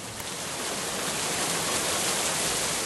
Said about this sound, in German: Strömender Regen. Wir dachten echt, das ist doch jetzt hier ein schlechter Scherz.